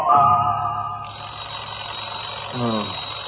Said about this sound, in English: Alarm clock suddenly goes off.